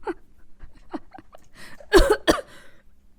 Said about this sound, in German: Oh Gott, ich darf nicht lachen, dann muss ich husten. Ja, nicht husten.